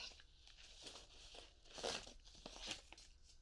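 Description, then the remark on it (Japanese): A sheet of paper crinkles and rustles in a few crisp bursts, then settles as it is laid down on a desk. No one speaks. “この紙を机の上に置いておくから”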